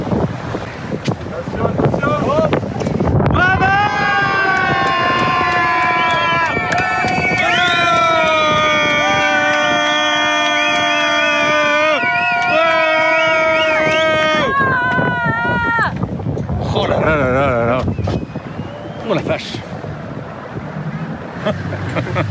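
Wind buffets a small rented boat on open water carrying a family out to meet a racer at his finish, a steady roar of rushing air and engine hum, while several voices shout and call out loudly in long, drawn-out cries over it.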